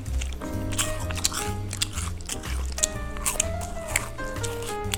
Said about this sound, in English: There's some nice smacking on this jerky stick. Oh, yeah. This combo is really, really crunchy. Yeah, get a crunch in there. Here we go. Oh, that's a nice crunch.